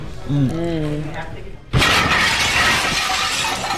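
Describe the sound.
A brief voice, then a sudden loud crash as a car smashes through a glass window, with shattering glass and debris clattering on for a couple of seconds.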